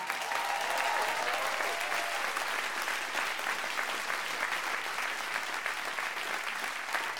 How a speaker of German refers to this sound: Solide, solide. Solider Applaus